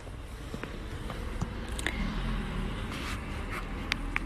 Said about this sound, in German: Ja, genau jetzt, wo auch mal ein Auto vorbeifährt. Weil das ist das Leben, genau das.